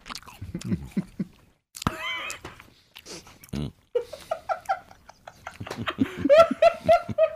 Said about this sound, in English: We're all going to enjoy our apple. Ready? One, two, and I want total silence besides this. Everybody, one, two, three, go. Mmm. The chewing. Nice job on the silence.